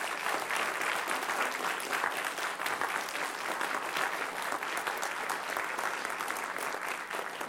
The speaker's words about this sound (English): Thank you all. Let's give them applause and thank them.